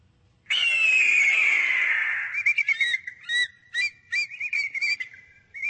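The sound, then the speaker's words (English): An American bald eagle, a bird of prey, cries: a long, high, gradually falling whistled screech, then a quick run of sharp, piping chirps, loud, with no voices. “It is an iconic bird of prey and an ironic centerpiece of the presidential seal that follows Donald Trump everywhere.”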